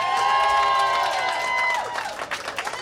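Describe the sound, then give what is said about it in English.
A crowd at a live celebration event applauds and cheers loudly for Wendy Dio, with sustained whoops and whistles over dense clapping that fades toward the end, leaving scattered claps. “Ladies and gentlemen, a warm round of applause for Wendy Dio, everybody.”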